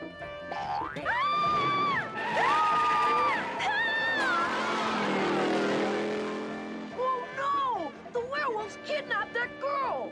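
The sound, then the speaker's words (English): A cartoon car with Shaggy and Scooby aboard revs up and races off from a drive-in in a Scooby-Doo cartoon, its engine roar swelling mid-clip under springy boing-like sound effects, with animated voices shouting around it. “Shaggy and Scooby hop in their car.”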